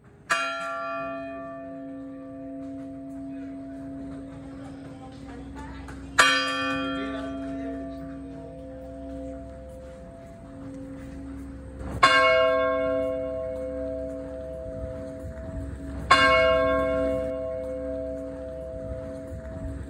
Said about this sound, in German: Es war zum Beispiel so, im Zendo, in der Meditationshalle, gab es einen Zeitpunkt, wo dann eine Glocke geläutet wurde.